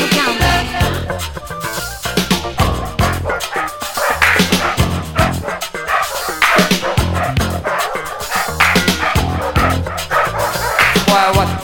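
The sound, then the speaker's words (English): A dog barks loudly and repeatedly, a steady run of sharp barks mixed with higher yips and whines that continues without a break. “Dog out here, you better take that dog and take it elsewhere.”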